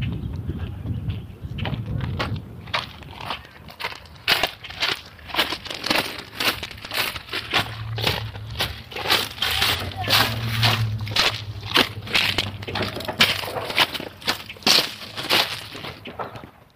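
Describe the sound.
Boots crunch steadily over rock, a rhythm of gritty, crackling footsteps repeating roughly every half second, with a low rumble underneath and faint voices in the background.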